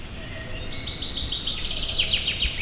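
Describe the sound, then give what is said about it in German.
Birds call in an orchard, a dense overlapping chorus of high, rapid chirps and trills running continuously, with a low rumbling background and no voices. “Wir haben in den Flächen auch seltene Vogelarten gehört und da freuen wir uns natürlich besonders darüber, denn das sind Arten, die vor allem in solchen Streuobstflächen auch vorkommen und auf die angewiesen sind.”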